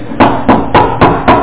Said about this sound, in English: That's an effective knock. What does it imply? A little bit of repetition, some persistence. It requires persistence.